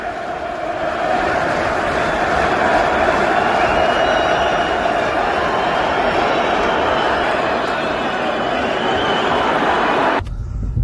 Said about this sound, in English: I'm afraid this is all Wolves fans you can hear right now.